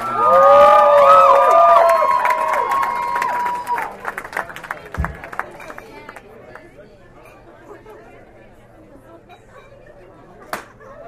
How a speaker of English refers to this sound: Give a huge round of applause for the beautiful